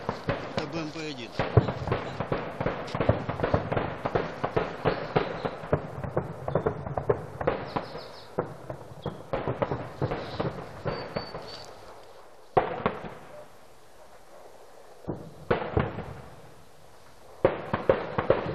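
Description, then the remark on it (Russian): Rapid, dense crackling gunfire in Sakhanka, Donbas, rattles almost without pause for about twelve seconds, halting a Red Cross aid distribution. It then gives way to a few separate heavy bangs, like shelling, with quieter stretches between them. “Но через полчаса снова начали стрелять, и раздачу пришлось прекратить.”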